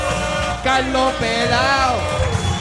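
An audience cheers and applauds, with a loud, sustained whooping shout that glides up and down over a steady bed of dense crowd noise.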